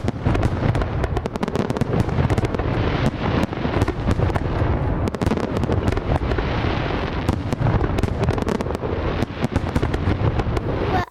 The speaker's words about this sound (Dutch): Vuurwerk. Wat hoorde je daar? Vuurwerk. Ja, heel veel vuurwerk. Dat is ja, zo pam, pam, pam, pam, pam, pam, pam. Ja, dat is hoe het klinkt met Oud en Nieuw inderdaad. Heel veel vuurwerk.